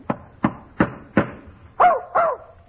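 A dog, Fletcher, barks six times in a steady rhythm in a hotel room, fairly loud, the last two barks sharper and more yelping, with no one talking over them.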